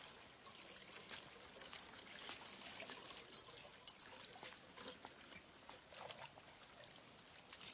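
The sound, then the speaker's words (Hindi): Water being let out from inside pours and flows steadily with a soft rushing hiss and a few small splashes and trickles, fairly quiet and continuous, with no one talking. “यो भी मारा ही है, अंदर से जा से पानी छोड़ना पड़े।”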